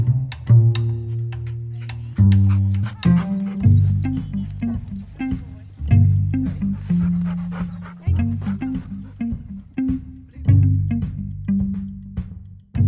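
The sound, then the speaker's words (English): A human voice plays a dog named Ellie, giving repeated barks, whines and quick panting breaths in a steady rhythm. The sounds are loud, over a continuous low tonal backing. “How many people can say they've played a dog on a podcast?”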